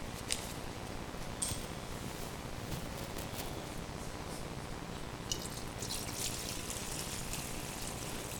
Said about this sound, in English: Did I get you already, son? I think that water splashed down and caught him a little bit. I believe it did.